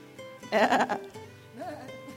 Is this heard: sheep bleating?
yes